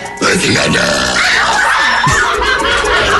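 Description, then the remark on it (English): A woman lets out a loud, drawn-out burp that rumbles for about three seconds, raspy, with a faint hint of laughter. “I'm burping like a man.”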